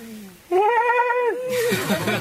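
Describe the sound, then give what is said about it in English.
A person imitates a horse's scream with a single loud, strained, high-pitched cry held for nearly a second. It breaks off into rough, breathy vocal noise. “Everyone knows how horses scream.”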